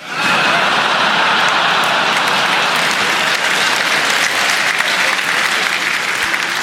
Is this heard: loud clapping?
yes